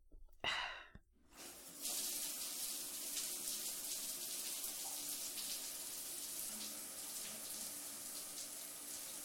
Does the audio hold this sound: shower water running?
yes